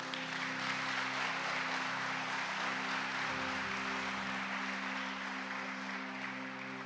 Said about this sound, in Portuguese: Pode aplaudir, irmão.